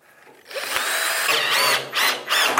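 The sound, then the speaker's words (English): A power drill with a socket whirs steadily, fastening a tabletop to a metal leg of a workbench, with pitch dipping and rising as it bites in, then a couple of short final bursts. “First step here, I need to attach the tabletop to the metal leg. So I got my drill and my socket.”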